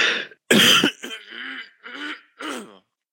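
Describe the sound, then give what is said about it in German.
A loud throat clearing: a sharp rasping burst, then a few shorter voiced, grumbling clears in a loose rhythm, with no talking. “Entschuldigt mich mal, ich muss mich mal kurz räuspern.”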